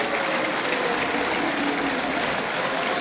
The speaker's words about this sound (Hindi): Strasbourg में स्थित यूरोपीय संसद में सिप्रास का जोरदार स्वागत हुआ। जैसे ही वो अंदर गए लोगों ने तालियों से स्वागत किया।